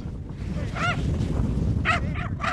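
A dog gives four short, high yelping barks, one early and then three in quick succession, as it chases a passing skier down Wright Gully, a steep snow slope at Tux, over a steady rushing outdoor noise like wind or sliding snow.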